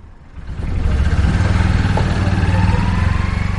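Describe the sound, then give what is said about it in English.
A tuk-tuk engine idles loudly, its small motor putting out a steady, rapid chugging rumble that swells in within the first half second and holds throughout. “But as for now, the tuk-tuk engines continue to tick over in their unique way.”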